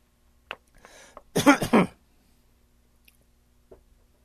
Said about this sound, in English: Let me hold up for a second here and get a little water.